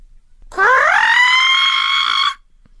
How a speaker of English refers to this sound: Swelling with pride, Miss Crow puffed up her feathers and began to sing the most lovely music I had ever heard.